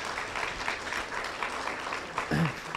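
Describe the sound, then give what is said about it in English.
An audience claps steadily, a dense wash of many hands at moderate loudness, with a brief voice rising near the end. “You can give him a hand clap.”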